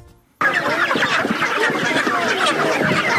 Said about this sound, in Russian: Площадь перед поселковым советом Новотроицка превратилась в птичий базар. Международный Красный Крест привез в поселок живых кур.